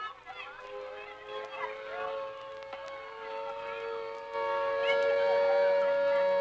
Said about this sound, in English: A siren, and the children are all running in the same direction.